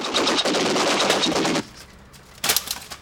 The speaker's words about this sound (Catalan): La Carbonell dispara amb una metralladora contra la porta.